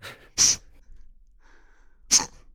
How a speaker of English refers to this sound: You know, when you swallow your sneezes, which they tell you not to do, but it's great. It's great because no one looks too funny and you don't have to say, I'm sorry.